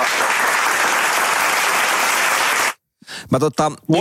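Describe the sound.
Loud, dense applause fills nearly three seconds, a steady wash of clapping that cuts off abruptly; after a brief silence, a person begins talking.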